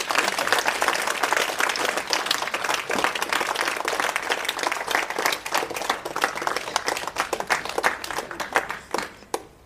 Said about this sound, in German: Und jetzt guck doch mal, wie groß du bist. Klatsch doch mal und zeig doch mal,